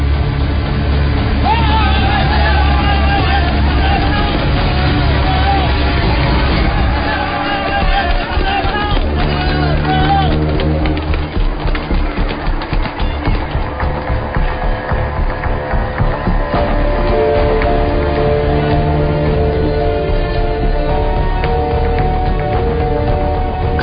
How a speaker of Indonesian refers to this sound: Tiba-tiba, di depanku ada suara ribut. Seperti ada suara orang berlarian bercampur dengan teriakan-teriakan marah.